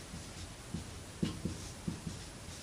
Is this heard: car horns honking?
no